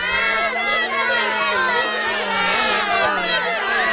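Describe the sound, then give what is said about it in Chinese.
A crowd of spectators breaks into loud, restless commotion, many voices chattering and calling out over one another in a dense, steady roar for the whole stretch. “观众席突然骚动了起来”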